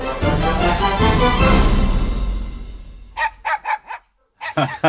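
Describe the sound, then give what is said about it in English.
A brief burst of jingle music fades away, then a dog barks five times in quick succession, pauses, and lets out two more sharp barks. “It still makes us laugh after all these weeks. It's so good. It's barking mad.”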